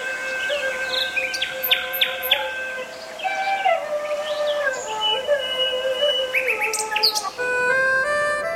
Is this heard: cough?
no